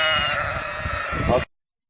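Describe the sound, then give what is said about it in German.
A sheep from a shepherd's flock gives one long, wavering bleat lasting about a second and a half, loud, then cuts off into silence. “Aber solange es meinen Schafen gut geht und ja, ich bin gesund, ich bin eigentlich ganz glücklich, mir fehlt nichts.”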